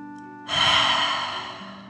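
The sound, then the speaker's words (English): A deep breath in through the nose and out through the mouth during a relaxation breathing exercise: a strong, airy whoosh rises suddenly and then slowly fades like a long exhale from the mouth, fairly loud, over a faint steady background tone. “Breathing in through your nose and breathing fire out of your mouth.”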